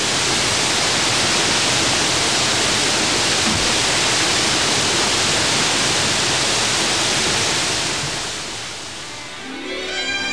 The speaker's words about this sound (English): In between Lake Erie and Lake Ontario lies one of the world's greatest natural wonders, Niagara Falls.